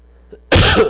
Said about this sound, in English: Guys, I'm sorry about that cough. I don't mean to shake you up.